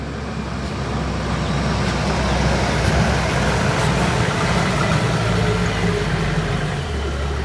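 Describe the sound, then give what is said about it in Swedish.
A car engine drones steadily from inside the vehicle as it drives in through a gate, a loud continuous low rumble with road noise and no talking. “När vi kör in där i porten och kommer in i en bil liksom.”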